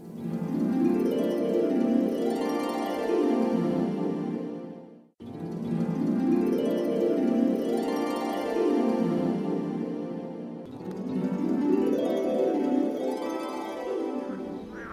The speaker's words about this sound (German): Da die kleinen Hüpfer nachtaktiv sind, quaken sie am meisten nachts in der Paarungszeit. Dem Froschkonzert kannst du also am besten im Frühling lauschen.